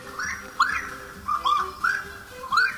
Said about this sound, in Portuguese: Enquanto a Saracura pia lá no brejo